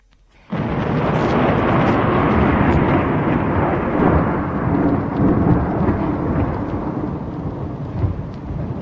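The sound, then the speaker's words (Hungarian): Thunder breaks in abruptly after a moment of quiet, then rolls on as a loud, deep, continuous rumble amid a broad roar of storm noise, with an old sail used as a tent flapping wildly, barely fading before the end. “Nem tudtak szót váltani, az öreg vitorla vadul csattogott, és a viharhangjai is harsogtak.”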